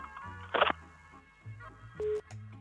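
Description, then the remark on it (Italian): A telephone busy signal beeps in short, repeated tones over a faint line hum on a call that goes unanswered, broken by a brief burst of noisy static; no one speaks. “Murù, cosa fai col telefono? Non rispondi mai?”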